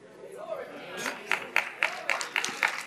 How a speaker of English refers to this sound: Why the rest of y'all not clapping? You heard something.